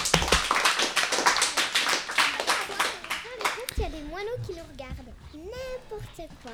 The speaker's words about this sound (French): Bah, merci d'être venu. Et on peut quand même, on peut encore les applaudir.